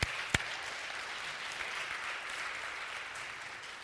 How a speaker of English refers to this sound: Now that deserves a huge hand clap right there.